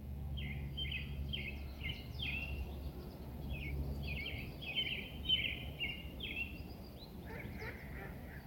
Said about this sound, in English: And it is a great day for birds. Can you hear them?